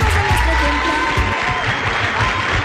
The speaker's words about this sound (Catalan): Els nens aplaudeixen molt, eh? Aplaudeixen molt. Per ser l'hora que és, d'un divendres.